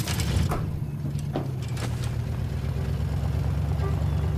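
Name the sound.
truck driving off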